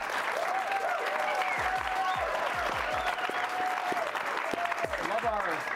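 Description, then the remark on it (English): A live studio audience at the BYU basketball show with Kevin Young in Provo, on a snowy night, applauds steadily and loudly for several seconds, a dense wash of clapping with scattered cheers and whoops rising above it. “Love our crowd tonight.”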